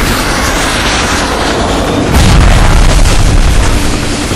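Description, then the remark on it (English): A swarm of Red air defense missiles explodes against jet aircraft trying to outrun them, amid a loud, continuous roar of engines, with a heavy, deep boom bursting in about halfway through and rumbling on to the end. “After all, they had to protect the Russian brass that rode the Silver Bullet, and every missile that was fired found what it was seeking.”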